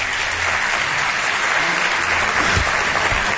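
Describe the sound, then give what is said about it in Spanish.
Steady audience applause, a dense wash of many hands clapping at once, loud and sustained throughout with no talking over it. “Un aplauso para ellos, dos compañeros del Espacio en Blanco.”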